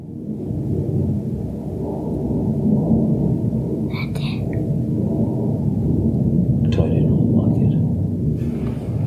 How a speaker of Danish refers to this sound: Jeg tror bare, det er en flyver, der flyver hen over himlen.